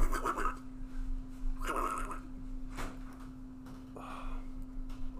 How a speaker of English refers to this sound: Excuse me, I gotta blow my nose.